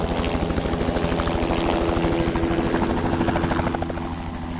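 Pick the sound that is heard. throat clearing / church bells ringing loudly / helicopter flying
helicopter flying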